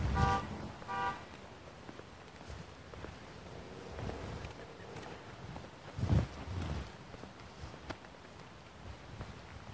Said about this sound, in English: Just hope that's not my car. Auto alarm honking.